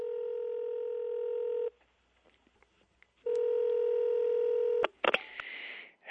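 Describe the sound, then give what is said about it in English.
Two long, steady electronic telephone tones sound clear, separated by a pause of near silence. A few clicks and a short burst of hiss follow at the end. “It all sounds like there may be a phone call in the offing.”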